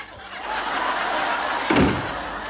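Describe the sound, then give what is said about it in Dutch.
A single dull thud of a door being shut, rising briefly out of a steady hiss of background noise. “Schiet nou even op met die deur.”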